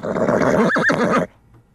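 A horse whinnies once, loud, a shrill, quavering neigh lasting just over a second before cutting off abruptly into near silence.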